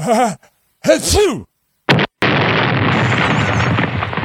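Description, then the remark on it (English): A voice mimics a propane tank explosion: a few wobbly vocal grunts, a sharp pop, then a loud, sustained hissing roar that trails on for a couple of seconds. “My explosion didn't work.”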